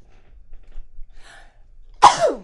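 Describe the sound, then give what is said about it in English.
A single loud sneeze bursts out after a quiet pause and a faint breathy intake, ending with a short trailing exhale. “I need to sneeze.”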